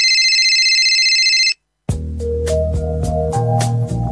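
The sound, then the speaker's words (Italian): A steady electronic telephone ring trills loudly for about a second and a half, then cuts to silence as an answering machine picks up, starting a burst of music with pulsing beats. “Questa è la segreteria telefonica del ….”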